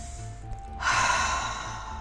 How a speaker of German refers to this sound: Spüren Sie doch bitte kurz in Ihren Körper hinein. Atmen Sie ein paar Mal tief in den Bauch und dann wieder aus.